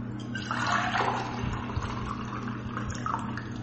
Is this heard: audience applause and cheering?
no